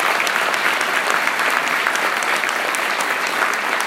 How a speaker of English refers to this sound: Je crois que ça mérite un tonnerre d'applaudissements